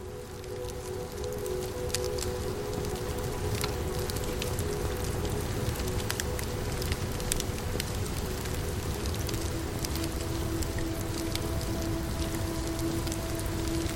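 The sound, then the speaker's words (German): A campfire in a clearing crackles steadily for the whole stretch, a dense hiss scattered with sharp little pops and snaps, with a faint low steady hum underneath and no voices. “Dieses Feuer ruft dich, wie ein vertrauter Freund, der dich einlädt, näher zu kommen.”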